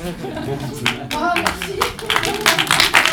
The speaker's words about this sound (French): Oh, merci. Les applaudissements étaient plus fournis, je pense.